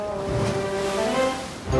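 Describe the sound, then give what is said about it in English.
Ocean waves wash in a steady, continuous swell, with a soft sustained musical tone humming underneath and no voices. “The box floated on the waves.”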